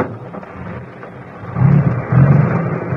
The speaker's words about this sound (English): One of the trucks was just leaving.